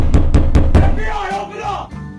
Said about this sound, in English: It's either you're getting robbed, someone trying to knock down the door, or the cops.